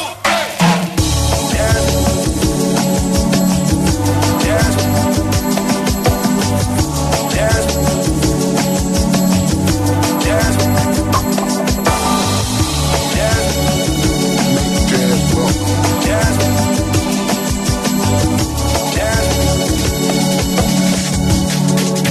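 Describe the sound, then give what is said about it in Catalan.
A funky soul track plays steadily and loud throughout, with a full band of bass, drums and layered instruments and no talking over it. “És un grup també molt funky, molt soul, que en el seu moment, ja et dic, van tenir bastant de ressò”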